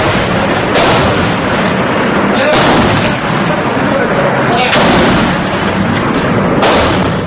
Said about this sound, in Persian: بنابر خبر دیگر، تانک های ارتش سوریه شهر حمص را هدف قرار دادند. صدای گلوله اندازی و ترکش ها در شبکه اجتماعی پیدا شد که باور می رود از رویدادهای 10 فوریه ضبط شده است.